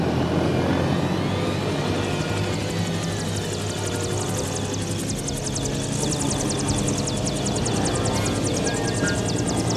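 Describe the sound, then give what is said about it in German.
A helicopter hovers, its steady engine roar and low droning hum filling the scene, with a rapid rotor chop growing more pronounced toward the end. No one speaks. “Der Hubschrauber hält wieder an.”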